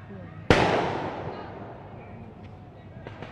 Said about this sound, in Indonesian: Bisa dilihat di layar Anda, ini petasan kembali diserahkan oleh massa ke arah Makobrimob.